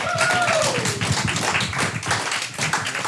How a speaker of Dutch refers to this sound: Dus geef ze een groot applaus